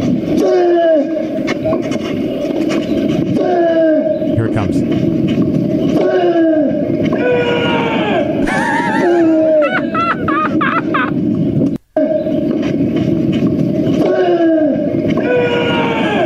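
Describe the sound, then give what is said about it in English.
A male tennis player lets out loud, drawn-out grunts with each hit, moaning cries that slide down in pitch and repeat every couple of seconds over steady crowd noise, with a brief spoken line. “So this is that's the legit guy grunting.”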